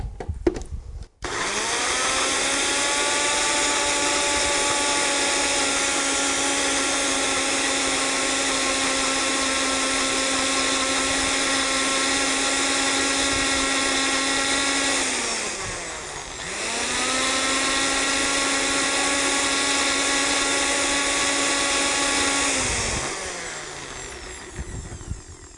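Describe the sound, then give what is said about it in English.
A blender blends homemade lotion with a little distilled water, a steady, loud high-pitched motor hum that briefly slows and dips around the middle, then revs back up before winding down at the end, no voices present. “We're going to blend this.”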